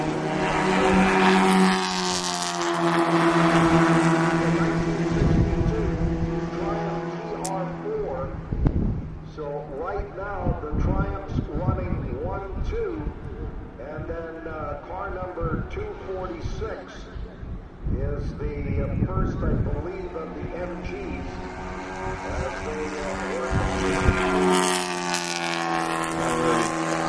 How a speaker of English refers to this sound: There you have it. That's enough of the Triumph MG race.